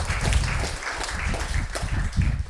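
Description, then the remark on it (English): An audience bursts into steady applause after a remark about the president's approval rating among independents falling to 27%, a dense wash of many hands clapping at once that holds at an even, fairly loud level for a couple of seconds, with no one talking over it. “That's something to applaud about.”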